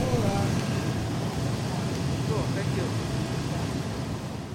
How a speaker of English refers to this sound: Luckily, the van shows up a couple minutes later.